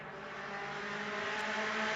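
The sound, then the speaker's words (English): A race car on BF Goodrich tyres pulls into its pit box at the Rolex 24 at Daytona meeting, its engine holding a steady, broad roar with a faint tonal hum, gradually growing slightly louder over two seconds, with no voices. “He has pulled into his pit box.”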